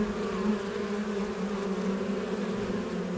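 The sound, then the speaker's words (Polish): A steady, continuous hum of bees buzzing, a dense low drone with layered tones that holds at an even loudness throughout, with no voices. “I tak samo z pszczołą.”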